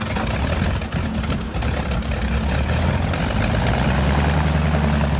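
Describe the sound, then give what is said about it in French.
A seaplane's propeller engine, on 6 August 1940 as it leaves England for sub-Saharan Africa carrying three emissaries of General de Gaulle including Philippe Leclerc, runs at a steady, loud idle, a deep throbbing drone with a rough, hissing roar layered over it, with no voices. “Ce jour-là, un hydravion quitte l'Angleterre pour rejoindre l'Afrique subsaharienne.”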